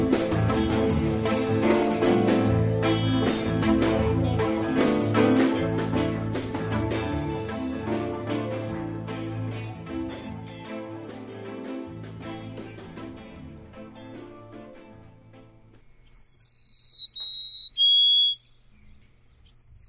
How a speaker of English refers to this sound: This week, one of my favorites, the Golden Crown Sparrow.